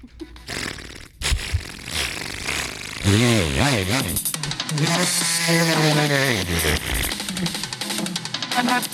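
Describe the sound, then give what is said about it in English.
A person imitates a chainsaw with their voice, a loud buzzing growl that revs up and down in pitch in rising and falling swoops for several seconds. “with chainsaw noise.”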